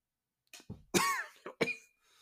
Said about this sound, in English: and I know I'm coughing a little bit here.